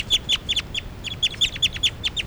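Birds chirping in quick, repeated bursts of short, high calls, fairly close and clear, over a faint low background rumble with no talking.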